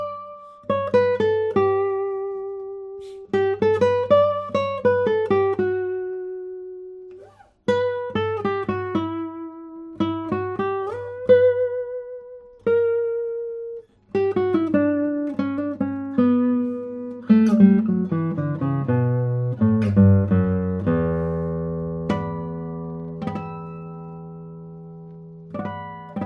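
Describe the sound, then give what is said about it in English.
An acoustic guitar plays a solo melody with a bright, bell-like ring, plucked notes decaying over a bass line, phrases repeating before a descending run settles into a sustained, ringing chord. No one speaks. “Very bell-like sound. I love it.”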